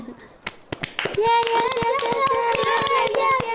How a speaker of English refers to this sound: Wow! We all learned that very fast. Clap for ourselves!